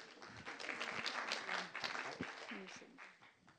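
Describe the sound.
A crowd applauds with dense, steady clapping that holds for several seconds before thinning out toward the end, with a few voices faintly audible beneath it.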